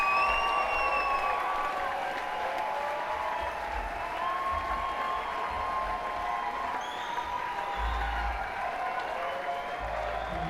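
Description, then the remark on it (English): A crowd at a live band gig applauds the band's musicians steadily and loudly for about ten seconds, with scattered whoops and cheers rising over the dense clapping, which stays fairly even throughout. “Can we please get a massive, massive round of applause for my two brothers who I'm so honored and privileged to play with”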